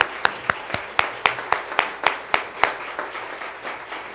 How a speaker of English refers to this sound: But we want you to stand this morning, and we want to recognize you. So let's let all of our fathers stand, and let's just give them a round of applause. Amen.